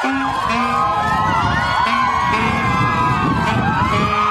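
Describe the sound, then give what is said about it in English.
Hundreds of crying, flag-waving fans scream and cheer nonstop to welcome band members back from military service, many high-pitched voices shrieking and whooping over one another in a loud, dense wall of excited noise. “spoke to the hundreds of screaming, crying, flag-waving fans who showed up to welcome them back to civilian life.”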